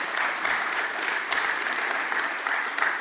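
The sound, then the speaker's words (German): Steady applause from an audience fills the whole span, a dense, even wash of many hands clapping at moderate loudness with no voices standing out. “Ich wollte Sie, bevor Sie geklatscht haben, und Sie haben schon fast zugestimmt, fragen, ob Sie mit mir diese Vision teilen.”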